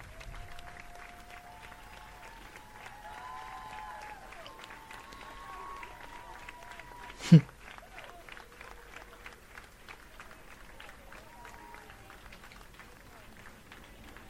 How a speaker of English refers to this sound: So they're like clapping and cheering.